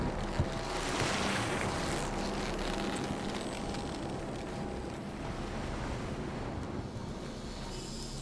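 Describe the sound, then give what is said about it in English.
Small boats knock and scrape against the port side of a ship's hull over a steady wash of water and wind, a continuous, fairly loud sound with no voices. “Sometime later, the sound of small boats rub up against the port side, and voices call out in Arabic.”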